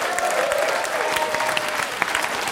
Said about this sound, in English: Let's do one big round of applause for everyone.